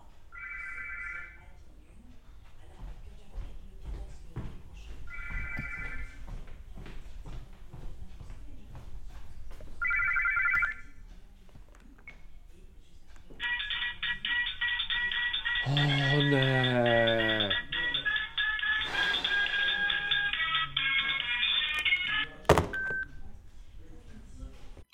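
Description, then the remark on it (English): A telephone rings in three short bursts a few seconds apart, then breaks into a long, loud continuous ring with a warbling tone sweeping through it before it cuts off. “A ringing telephone might cover up annoying sound sources.”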